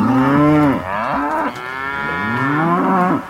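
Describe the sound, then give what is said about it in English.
A cow moos loudly, two long, drawn-out lows with a brief dip between them, rich and resonant with no other sounds around. “But Wyoming has more cows than people.”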